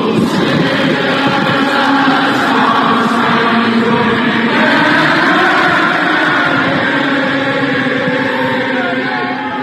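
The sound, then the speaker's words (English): A huge stadium crowd of fans in North Carolina sings the national anthem together in unison, thousands of voices blending into one loud, sustained, echoing chorus that carries steadily throughout. “all of the fans singing the national anthem at the same time”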